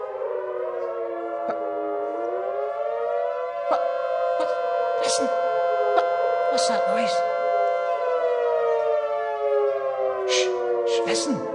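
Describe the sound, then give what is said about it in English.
A loud air raid siren wails steadily, its tone slowly rising and falling in long sweeps, while short sharp clicks and bursts of noise pop up intermittently over it. “A war siren. You're exactly right.”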